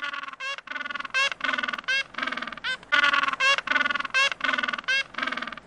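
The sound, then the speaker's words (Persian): Loud, harsh penguin calls bray in rapid, nearly continuous bursts, several honking voices overlapping, with no talking. “صدای پنگوان بود.”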